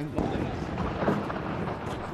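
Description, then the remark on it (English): Faint, distant gunfire cracks and rumbles in scattered bursts, heard from inside a school classroom, beneath a steady backdrop of murmuring voices and room noise. “As we step inside a classroom, we hear gunfire in the distance.”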